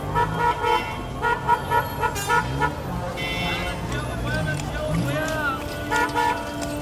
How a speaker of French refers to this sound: Ici, le bruit des klaxons est omniprésent.